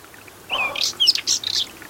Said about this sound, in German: Und dieses raue, kratzige ist dann im heißen Sommer und so trockene Dornbüsche, Offenlandschaft und das ist typisch das Braunkehlchen.